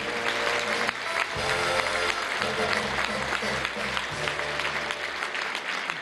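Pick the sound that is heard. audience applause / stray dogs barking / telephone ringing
audience applause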